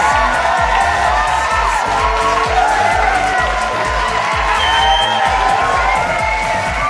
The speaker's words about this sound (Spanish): Y qué mejor manera de agradecerles que con un fuerte y estruendoso aplauso.